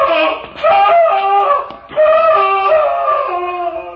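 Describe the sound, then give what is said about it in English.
A man screams in agony: two long, loud, wavering cries with a short gasp-like break between them, the second drawn out and sustained to the end. “Sounded like a man in mortal agony.”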